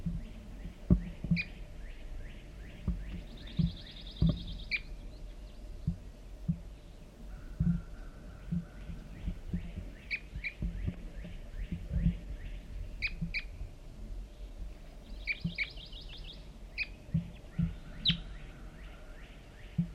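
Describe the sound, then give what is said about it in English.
Calls of one lone male red crossbill, large race, sitting in a large white pine across a creek: short, sharp, high chips repeated in loose bursts, with occasional brief buzzy trills, set over a low rumbling background with scattered soft thumps. “It was one lone male red crossbill, large race, and I see him sitting in the large white pine across the hollow, across the creek.”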